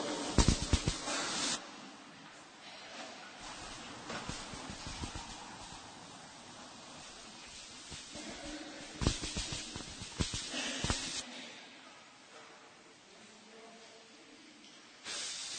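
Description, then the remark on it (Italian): A steady hiss of the Easter new fire flaring as a candle, the paschal candle, is lit from it, with louder bursts at the start and again in the middle, then settling into a softer, continuous sizzle. “Ed ora, al fuoco nuovo, accendiamo il cielo pasquale.”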